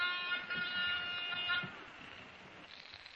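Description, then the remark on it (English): A gold-looking apartment door buzzer in a swank apartment is pushed and sounds once, a steady harsh electric buzz lasting about a second and a half before cutting off, leaving faint room noise behind. “Even the buzzer I pushed in the swank layout looked solid gold.”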